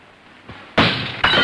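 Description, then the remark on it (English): Window glass shatters loudly, a sharp crash followed by bright tinkling shards, then a second burst of breaking glass a moment later. “A window shatters.”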